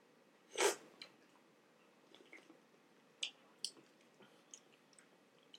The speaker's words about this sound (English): Oh, let me drink from the can first. Let's go ahead and sip this.